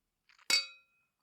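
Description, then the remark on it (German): Two drinking glasses clink together in a toast: a couple of light taps, then one bright ringing clink whose tone lingers and fades within a fraction of a second, with no talking. “Kleiner Freitag, da dürfen wir einen Drink genießen. Einen dürfen wir. Und zwar auf die Liebe.”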